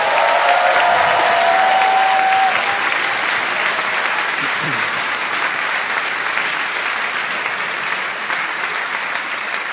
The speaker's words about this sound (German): Und bevor wir loslegen, darf ich bitte mal einen tosenden Applaus für unsere wunderschöne DJ haben.